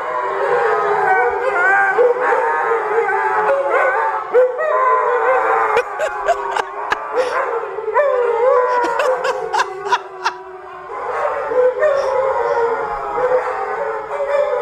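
Several dogs sitting in front of a TV at home howl at a baseball game broadcast in long, wavering, overlapping cries that fill the whole stretch, with brief clicks and short breaks between bursts of howling.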